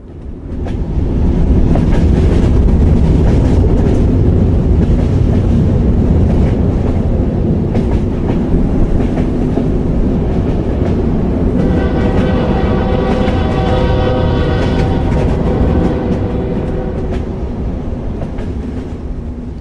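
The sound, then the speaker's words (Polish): A freight train with cattle wagons rolls past steadily with a heavy low rumble and rhythmic clatter of wagons on rails, with a metallic squealing tone rising in the second half. No voices. “Kibitki zastąpiono pociągiem z bydlęcymi wagonami.”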